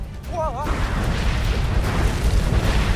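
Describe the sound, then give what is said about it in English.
A dense, rumbling roar of explosions erupting from slime at a dam, low booming bursts rolling continuously, with a brief warbling electronic chirp near the start. “Explosions erupt from the slime behind them.”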